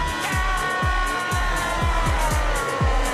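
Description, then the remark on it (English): A car doing donuts at night drones steadily while circling, its engine pitch swooping in a regular cycle about twice a second. The sound is continuous and moderately loud, with no voices. “At night, Dex and Ed sleep while the car continues to do donuts.”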